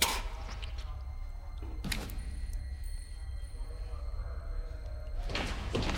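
A heavy cell door to a prison's communal area is opened by four guards, with sharp metallic clanks, one at the start, another about two seconds in and a final louder one near the end, over a steady low rumble.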